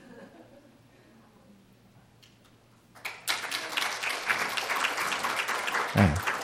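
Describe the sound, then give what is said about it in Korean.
A crowd breaks into loud, sustained applause after a few seconds of quiet murmuring, as a pastor's new wife stands up to be introduced; the dense clapping continues steadily to the end. “뭐 박수 칠 일까지는 없고요.”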